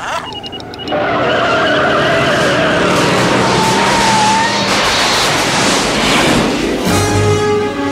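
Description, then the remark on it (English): A car roars up loudly and accelerates toward 88 miles per hour with a whining engine, tires screeching and skidding as it rushes past, a broad rushing noise filling several seconds before fading into a lower rumble. “If my calculations are correct, when the car hits 88 miles an hour, you're gonna see some serious shit.”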